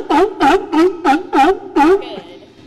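A sea lion named Surfer barks six times in a steady, quick rhythm, each bark loud and harmonically rich, followed by a brief fading tail of background noise.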